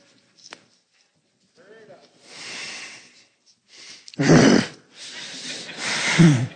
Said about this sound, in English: That growl wasn't at people. It was at a lie.